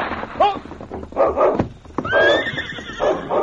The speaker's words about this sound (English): Come on, man. Just as Sergeant Preston urged his horse into a faster pace, a distant rifle shot rang out.